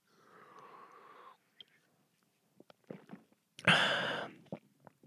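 A soft, breathy slurp of someone sipping water, then several small wet clicks and gulps as it's swallowed, ending with a loud, airy exhale.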